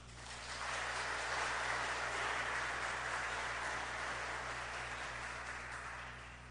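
Sustained audience applause, a dense steady patter of many hands clapping that swells in and fades slightly toward the end, with no talking over it.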